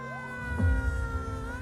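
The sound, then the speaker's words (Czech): A fire engine siren wails steadily, its rising and falling tone sweeping over the low rumble of an idling engine, moderately loud, with no talking. The fire engines are at night in the Šanov district of Teplice, Czech Republic, in April 1996. “V teplické čtvrti Šanov protínají tmu jasně modré majáky hasičských aut, v okolí kterých se to hemží městskými policisty.”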